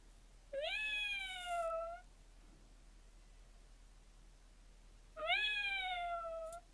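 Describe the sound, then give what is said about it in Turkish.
A person imitates a cat with two drawn-out, falling meows, each lasting over a second and separated by a few seconds of quiet hiss. The voice is fairly loud, with no talking. “Bir de kedinin karakteristik özelliklerini koy. Mesela kediler genelde dümdüz miyavlamaz.”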